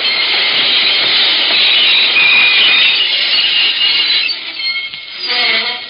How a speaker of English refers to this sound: By the time the train pulled into the Great Valley Terminal in town,